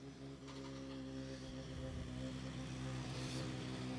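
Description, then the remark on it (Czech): A Volkswagen Polo GTI R5 rally car's engine drones steadily with a strong, buzzing tone, growing slightly louder as it arrives on a rally special stage. The sound is continuous, with no voices. “Přijíždí Vojta Štajf, Polo GTI R5.”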